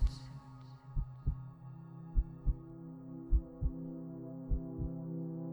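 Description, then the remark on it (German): Slow, deep heartbeat thumps in lub-dub pairs, repeating four times at an even pace over a steady low droning hum, with no voices. “Und lauschte dem einsamen Herzschlag der Dunkelheit des Himmels.”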